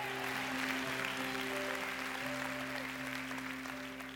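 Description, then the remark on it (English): An audience claps in a steady, dense wash of applause that holds fairly loud for about four seconds, with a few sustained tonal hums underneath, then eases off slightly at the end. “Come on, you can clap a bit better than that.”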